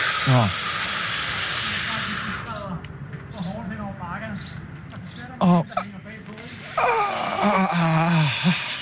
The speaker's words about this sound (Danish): Så på fem, suk. Et ordentligt pust ind. Og på tre, stille og roligt pust ud. Er I klar? Ja. Helt ned i maven. 5, 4, 3, 2, 1.